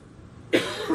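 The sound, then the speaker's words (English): A single loud cough breaks a half second of near silence, followed by a brief rasp and the start of another cough at the very end. “If I have to cough, I do this.”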